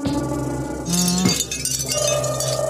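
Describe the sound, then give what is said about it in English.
Wind chimes ring out in overlapping metallic tones, with a brighter cluster of tinkling strikes about a third of the way in, their notes sustaining and blending into a steady shimmer. “They're showing wind chimes.”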